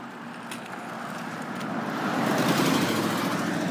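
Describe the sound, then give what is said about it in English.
A vehicle drives by on a street near the back door of a home, its broad engine and tire rumble swelling steadily louder over a few seconds, with no one speaking. “I've been out for a little walk and this vehicle's going by.”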